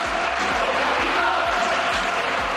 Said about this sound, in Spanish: ¡Oh, capitán, capitán! Gritaba el Villamarín